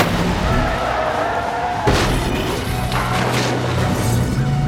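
During a police pursuit in rush-hour traffic, the fleeing car slams into another vehicle with one heavy, loud crunch, followed by brief rattling and scraping, all over a steady rumble of engine and road noise.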